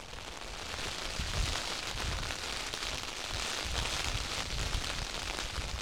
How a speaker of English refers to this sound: I'd much rather be out here being lashed by the rain.